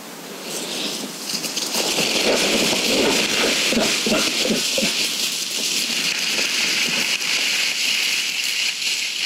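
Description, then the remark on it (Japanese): A bear, recorded at night around 7:30 pm by a set-up microphone, crashes away through undergrowth, a quick run of rustling, crunching steps over a steady hiss of background noise, the steps thinning out after a few seconds. No one speaks. “人間の匂いを感じ取ったのか逃げていくような音が入っています。”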